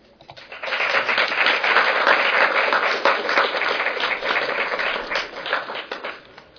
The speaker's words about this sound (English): Let's give another round of applause for all of our panelists.